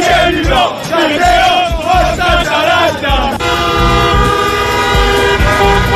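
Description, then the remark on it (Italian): A loud crowd of thousands of Atalanta football fans chants and cheers together during the night in Bergamo, then car horns join in, honking in a sustained, blaring chorus that carries on over the celebrating voices. “10 lode alle migliaia di innamorati che hanno festeggiato nella notte a Bergamo.”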